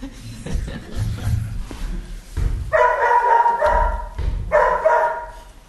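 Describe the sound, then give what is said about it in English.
A dog barks, with a few short yaps followed by two longer, loud, strained barking bursts separated by a brief pause. “The dog is the welcoming committee. Every person comes, the dog welcomes them.”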